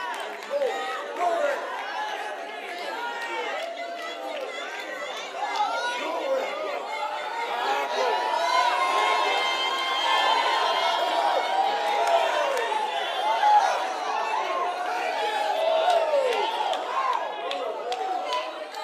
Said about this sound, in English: Y'all ain't shouting enough for that.